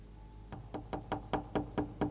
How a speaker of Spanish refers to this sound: Estoy en la habitación 233. Toqué la puerta y mi esposa no abrió.